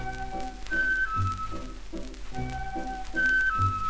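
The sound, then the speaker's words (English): A thin, high whistled melody, the whistle of Wilbur the whale as he tries to blow water through his spout, repeats twice over bouncy musical accompaniment with a steady low beat, playing clearly and continuously with no talking. “He tried and tried again to blow water through his spout, but each time he tried, only this silly whistle came out.”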